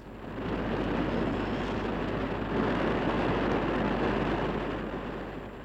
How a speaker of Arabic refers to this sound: راكي تسمعي في الرياح؟